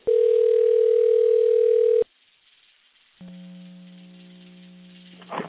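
A steady telephone dial tone holds for about two seconds as a call is placed to a person's office phone, cuts off, then after a short silence a lower ringback-like tone with harmonics hums on, ending in a brief burst of noise.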